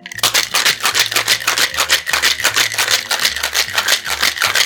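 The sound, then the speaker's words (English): A cocktail shaker filled with ice, cognac, Cointreau and lemon juice is shaken to make a sidecar cocktail. The ice rattles in a fast, steady rhythm of bright, loud bursts, with a low bass melody playing underneath throughout. “Then shake well.”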